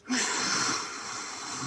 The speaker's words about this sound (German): Also das ist einfach, dass man so ein bisschen, wie wenn man eben den Spiegel anhaucht, so einen Widerstand erzeugt